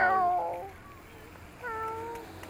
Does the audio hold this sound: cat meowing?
yes